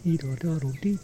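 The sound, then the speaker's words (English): A person imitates a bird call with a quick run of about six voiced, sing-song syllables, rising and falling in a short rhythmic phrase. The voice is moderately loud, with no other sounds. “I don't know what sort of bird it is.”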